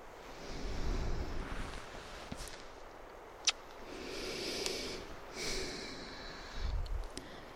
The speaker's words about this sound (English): Because you can feel me breathing, and it comforts you.